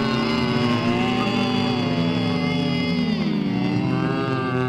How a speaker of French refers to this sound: On va donc entamer cette fois un échauffement avec la consonne M et la bouche fermée, s'il vous plaît. Là, ça rumine, là, non ?